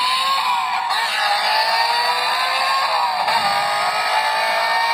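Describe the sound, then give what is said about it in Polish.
A black Audi toy car, set off by pressing its hood, plays a continuous electronic engine-revving sound, steady and fairly loud, with bright tinny tones rising and falling slightly like a small speaker imitating acceleration. “I teraz pozwolę sobie o, postawię, a pan redaktor nadusi maskę. Maskę. To czarne Audi. Nietypowa pozytywka.”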